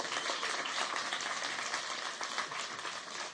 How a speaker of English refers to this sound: Come on, give yourself another round of applause.